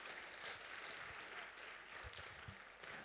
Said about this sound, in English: Okay, round of applause for everybody.